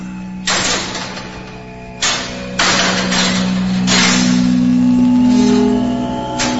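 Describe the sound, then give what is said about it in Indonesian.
A metal fence gate opens with several sharp clanks followed by a sustained grinding, ringing scrape as it slides, loud, with no voices, just after the evening maghrib call to prayer, as a man comes home from work. “Tepat setelah azan maghrib, ketika itu terdengar suara pagar dibuka.”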